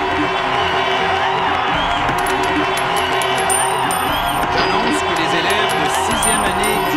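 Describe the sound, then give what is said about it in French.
A huge crowd of about ten thousand demonstrating students cheers and chants continuously, a dense, loud roar of many voices with scattered whoops and shouts rising above it throughout. “Les menaces d'une grève générale illimitée, et ça sous les acclamations d'une dizaine de milliers d'étudiants.”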